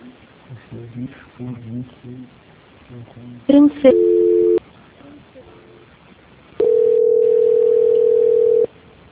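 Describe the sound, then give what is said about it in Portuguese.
A steady telephone dial tone holds for about two seconds near the end, after a short burst of tones and a brief tone segment, with a person talking quietly beforehand, as a call is placed over VoIP from a phone. “Vou ligar aqui pelo VoIP. Eu vou ter que fazer pelo meu telefone agora.”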